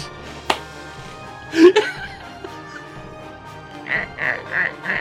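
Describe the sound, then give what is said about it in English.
A person imitates a bull duck, giving a couple of nasal quacks partway through, then a quick, even run of four quacks at the end, moderately loud. “That's why I don't make bird noises here.”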